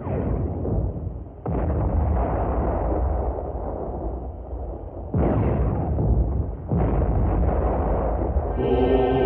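Deep, rumbling booms of scattered cannon fire on the horizon of the Western Front go off every few seconds, each blast rolling into a heavy, continuous low roar, with no voices present.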